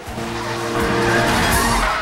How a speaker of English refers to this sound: The 4x4 and police car speed past a terrified woman caught in the middle of the road